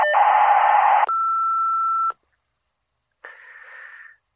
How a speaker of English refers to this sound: Leave a message at the beep and I'll